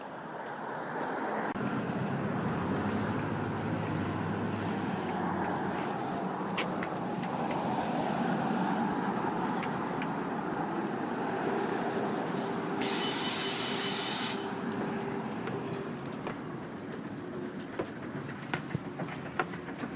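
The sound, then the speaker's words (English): A bus drives past a stop without stopping, its heavy engine rumble and road roar filling the scene, with a brief hiss partway through before the noise slowly thins out. “And this one didn't stop because he was late on his schedule.”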